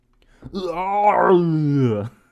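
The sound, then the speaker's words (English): A single loud, sustained howl of rage from one voice, held for about a second and a half with a strained, buzzing tone before its pitch sags and it cuts off. “I let out a howl of rage.”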